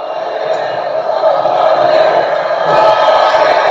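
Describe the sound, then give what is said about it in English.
The crowd at a live Trump rally in New Mexico roars in a dense, unbroken wall of cheering and shouting that holds steady, then swells louder toward the end. “Roaring.”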